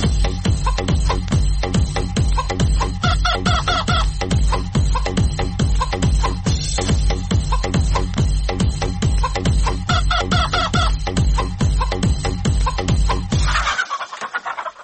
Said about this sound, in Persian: ای ای شنونده عزیز، در این بخش برنامه بیاین که از درد دل یک خروس هم با خبر شویم.